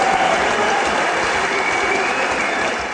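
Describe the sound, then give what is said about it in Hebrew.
A steady burst of dense clapping and applause from a small group, a family applauding a quiz winner, loud and continuous throughout, with no one speaking over it. “אז באמת, כל המשפחה שם מחיאות כפיים.”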